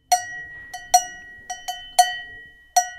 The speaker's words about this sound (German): So zum Beispiel führt ein gluckerndes Wasser zu einem Bach oder auch Kirchenglocken zu einem Dorf oder Kuhglocken helfen, zu einem verirrten Kälbchen zu finden.